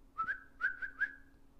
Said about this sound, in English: I'm whistling at her like she's a fucking puppy.